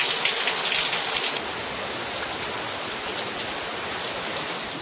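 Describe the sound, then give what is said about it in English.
Steady rain falls in a dense, hissing wash, louder for the first second and then settling into an even, continuous patter. No voices are heard. “A couple minutes later, it started raining.”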